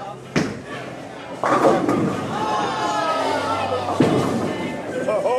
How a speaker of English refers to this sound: Right now, both teams are celebrating strikes and laughing at occasional gutter balls.